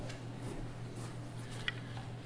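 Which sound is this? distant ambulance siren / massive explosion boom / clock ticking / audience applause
clock ticking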